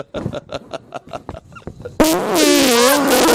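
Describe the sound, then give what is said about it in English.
A fart: a quick string of about eight sputtering pops, then a loud, sustained, wavering buzzy blast that quivers in pitch until the end. “That's the first time we've farted on the cast in a while.”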